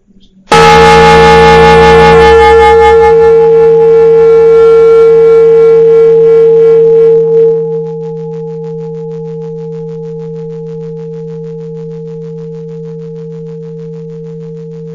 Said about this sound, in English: And we will start and begin with the bell.